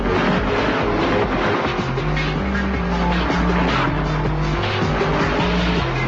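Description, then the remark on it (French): Video game race cars roar and skid continuously, with loud engine drone, squealing tires and a dense wash of noise that suggests crashing, shifting in stepped pitches throughout, with no talking. “Mais il y a là un bel effort de réalisme pour tordre les capots, malaxer de la tôle et faire fumer les radiateurs crevés.”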